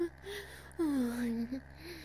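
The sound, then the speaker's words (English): A soft female moan stretches out for about a second with a gently falling pitch, framed by quieter breathy murmurs before and after, with no words spoken. “Oh, my moans are a little too distracting, huh?”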